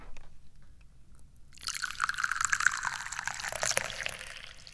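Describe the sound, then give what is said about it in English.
After a moment of quiet, tea is poured into a cup in one steady stream for about three seconds, its splashy trickle rising slightly in pitch as the cup fills. “and I'm also the guy who's obsessed with pouring tea.”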